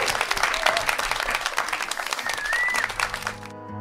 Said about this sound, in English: Alex, thank you so much for joining us on Bookworms. And if everybody could give Alex a massive round of applause.